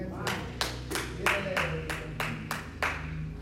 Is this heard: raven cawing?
no